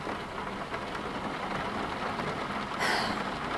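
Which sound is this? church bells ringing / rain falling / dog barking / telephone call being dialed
rain falling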